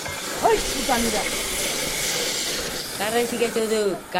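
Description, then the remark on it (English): A blowtorch hisses steadily while heating and cutting steel, a continuous bright rushing noise that holds for the whole stretch, with indistinct voices murmuring briefly underneath at the start and again near the end. “The torch makes a hissing sound.”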